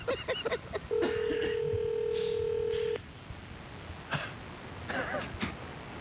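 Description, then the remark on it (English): A telephone number being dialed to place a Christmas call: a few quick clicks, then a steady electronic tone held for about two seconds, followed by faint muffled sounds and a hint of voices. “And listen how creeped out he is when … gives him a Christmas call.”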